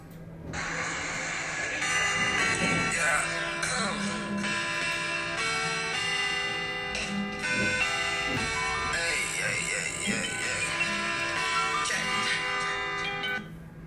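A song plays steadily for the whole stretch, with a dense tonal mix, sustained harmonic layers and bright bell-like tones over a constant bass line, fairly loud throughout.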